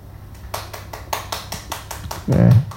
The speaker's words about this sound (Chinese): 对，啊，这次只有一个拍手，我听到声音有一个了哈。